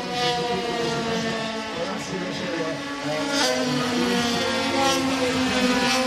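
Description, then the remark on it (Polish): Racing motorcycles scream past on the Poznań track during a round of the Polish motorcycle racing championship, their high-pitched engines whining steadily and loudly, with a couple of brief surges as bikes rush by. “Kolejna runda wyścigowych motocyklowych mistrzostw Polski na torze Poznań.”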